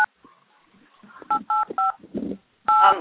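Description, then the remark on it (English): Several phone keypad tones from someone pressing the 1 key on a caller's phone, three short two-note beeps in quick succession and then a longer one, fairly loud over faint background murmur. “Someone else is pressing 1 on your phone.”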